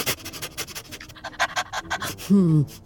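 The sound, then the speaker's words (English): A dog named Sniffy sniffs and pants in quick, rhythmic bursts of breathy noise while searching for bird smells at a tree with a bird's nest, ending with a short, low whining vocal sound that slides downward. “Sniffy, put your nose to good use. What do you smell?”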